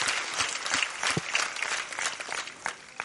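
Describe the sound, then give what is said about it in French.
Steady audience applause, a dense, even wash of many hands clapping at once, moderately loud and sustained throughout with no voices over it. “Alors, on peut applaudir toutes ces grandes amies.”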